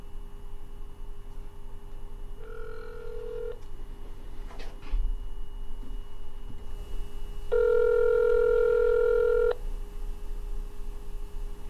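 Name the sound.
telephone dialing and ringing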